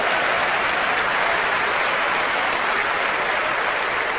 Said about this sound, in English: Okay, thank you, baby. Give her a round of applause, all right?